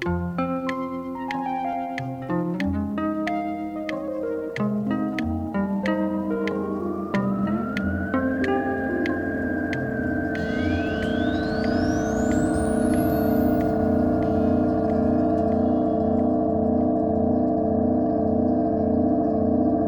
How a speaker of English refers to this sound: This week with the sounds that cars and trucks, hybrid or not, make as they cross the Rodenkirchner Bridge in Cologne, Germany.